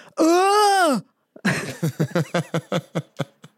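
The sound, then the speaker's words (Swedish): A man, on scratching a Triss lottery ticket, stands up and lets out one long, strange, wordless howl that rises and then falls in pitch, followed by a rapid string of breathy, rhythmic bursts like excited panting laughter. “Inga ord eller så, bara ett märkligt tjut.”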